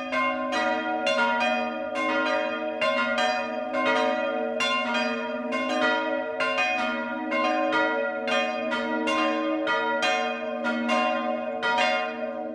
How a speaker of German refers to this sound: Es ist 12 Uhr. Das Mittagsläuten kommt heute aus Medlitz im Landkreis Bamberg.